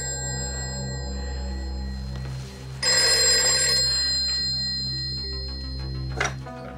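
A telephone bell rings with a steady, bright metallic tone over a low background hum, swelling into a louder, rattling burst partway through before settling back. No one speaks.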